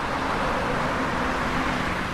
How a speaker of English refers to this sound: But, of course, the traffic came back, and with it, the noise.